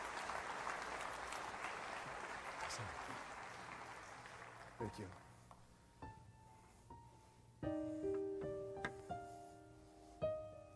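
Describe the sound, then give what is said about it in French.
An audience claps together in steady, dense applause that fades after a few seconds, followed by scattered claps, sustained organ or keyboard chords and a few sharp percussive hits. “Et que ceux qui le reçoivent, l'entendent dans leur cœur, disent un dernier grand amen ce matin et applaudissent avec moi cette œuvre surnaturelle de relâchement de la part de Dieu.”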